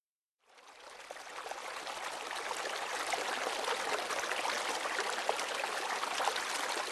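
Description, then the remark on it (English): A small stream, the Dalwat water, trickles steadily over emerald moss a stone's throw from Cairnhead Community Forest: a continuous soft, bubbling wash of water with no voices, after a brief moment of silence at the start. “Dalwat water oozes from emerald moss, a stone's throw from the forest.”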